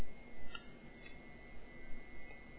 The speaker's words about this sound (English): Now, it's making a little click over its keyboard speaker. And I presume it's now seeking to send the message.